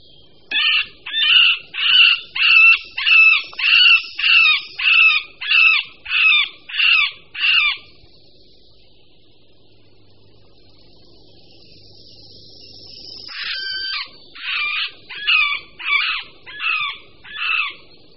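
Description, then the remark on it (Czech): A male middle spotted woodpecker's nasal, mewing courtship calls repeat in a steady rhythm of about a dozen notes, fall silent for several seconds, then return in a second shorter series. Clear, no talking. “Tok strakapouda prostředního začíná již v polovině února a samec se při něm ozývá mňoukavými či naříkavými zvuky.”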